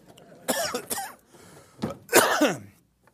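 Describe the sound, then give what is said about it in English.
A few harsh coughs and raspy throat clearing come in short bursts while a cough drop is being taken, with a brief pause in the middle before a louder, longer clearing of the throat. No one speaks. “All right, I was trying not to use a cough drop, but the cough drop is now being deployed.”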